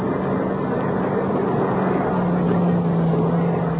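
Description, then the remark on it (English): A steady, loud engine rumble with a low droning tone that drops in pitch partway through, like a car driving past, with no talking. “Well, he's going past, isn't he?”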